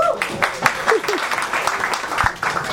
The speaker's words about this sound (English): The guys who are clapping are the guys who are here every week.